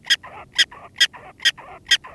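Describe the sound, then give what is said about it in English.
A prairie dog gives a badger alarm call, played from a speaker in the field to test how curlews respond: five sharp, high-pitched chirping barks in a steady rhythm about twice a second, each followed by a softer, lower yip, with no one talking. “you also put a speaker in the field to test whether the curlews respond differently if they hear the prairie dog saying, badger, badger, badger, in prairie dog language.”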